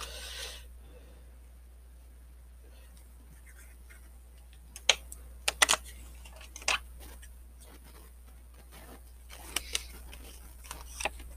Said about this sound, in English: And then one last shuffle.